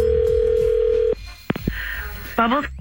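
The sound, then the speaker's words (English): A phone line hums with a steady tone for about a second, then cuts off; a sharp click follows, and a voice begins speaking over the line near the end. “Here's another phone check.”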